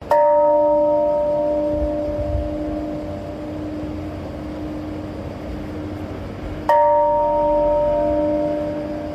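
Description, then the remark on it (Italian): The peace bell at the Hiroshima memorial park in Japan is struck twice, several seconds apart, at 8:15 during a minute of silence marking 80 years since the atomic bombing. Each deep toll leaves a long, humming resonance that fades slowly over a quiet outdoor background, with no one speaking. “Sono le 8:15, suona la campana della pace mentre il parco del memoriale di Hiroshima è raccolto in un minuto di silenzio.”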